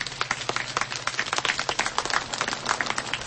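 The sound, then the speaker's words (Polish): A crowd applauds for Bishop Jerzy Mazur, ordinary of the Ełk diocese, at a gathering in Studzieniczna, many hands clapping in a dense, continuous patter that stays fairly even in loudness throughout, with no voices standing out. “Brawa także dla księdza biskupa Jerzego Mazura.”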